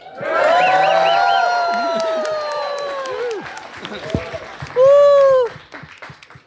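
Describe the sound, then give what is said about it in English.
A live show audience of about 65 to 70 people at the East City Ranch cheers and claps for the BBS Network for several seconds, with rising whoops and shouts over steady applause, then a last high whoop before the noise fades. “So, anyway, everybody want to give a big cheer or shout out to the BBS Network here?”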